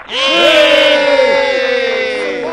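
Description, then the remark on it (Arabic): A group of voices lets out a loud, sustained yell in unison, a falcons' battle cry, many overlapping pitches wavering and sliding together for about two seconds before trailing off. “أسمعوني صرخة الصقور.”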